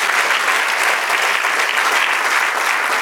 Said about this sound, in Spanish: Denle un aplauso ahora al Señor.